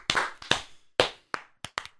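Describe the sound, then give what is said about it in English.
A single person claps about eight times, sharp, starting with slow evenly spaced claps and then quickening into a brisker, uneven burst toward the end. No one speaks. “I'm going to clap.”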